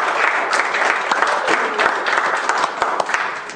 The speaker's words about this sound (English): Give the Lord a hand of applause in your name.